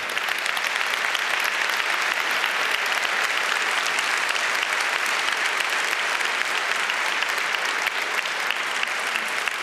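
Steady audience applause for a constructive approach fills the whole clip, a dense wash of many hands clapping at an even, sustained loudness with no voices breaking through.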